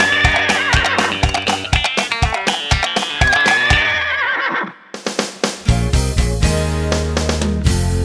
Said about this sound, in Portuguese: Imitando os animais, imitando, imitando o cavalo.